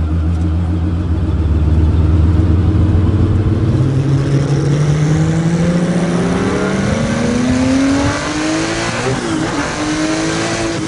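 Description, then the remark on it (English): A powerful sports car engine from a Leno clip revs hard, its pitch climbing steadily as it accelerates, with a brief dip near the end as it shifts gear before pulling again. “We can cleanse your palate by hearing what that car sounds like.”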